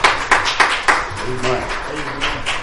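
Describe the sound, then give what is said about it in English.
An audience claps their hands together in praise of the Lord in a dense burst of applause, strongest at the start, with scattered voices calling out and murmuring underneath as the clapping carries on. “Give the Lord one more hand clap of praise, and you may be seated.”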